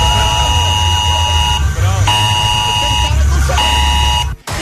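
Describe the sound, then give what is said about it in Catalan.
A loud, harsh electronic alarm, going off at 11 o'clock, blares in three long buzzing bursts with short breaks between them, its steady, high pitch staying constant throughout before cutting off abruptly. “Jo que estava tan tranquil·la sabent que a les 11 em sonaria l'alarma, i de cop a les 11...”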